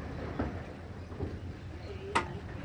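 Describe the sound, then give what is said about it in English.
A wildlife park tram idles at a tram stop with a steady low rumble and faint rail clatter, broken by a single sharp metallic clank near the end; muffled voices murmur underneath. “And here we are at the tram stop.”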